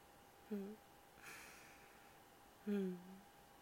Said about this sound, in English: You're panting, little baby.